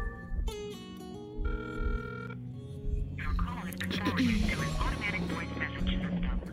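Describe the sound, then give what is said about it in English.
A telephone rings in repeated electronic bursts with nobody picking up, fairly loud, before the rings give way to a dense wash of noise and muffled voices. “And now she don't want to pick up the damn phone.”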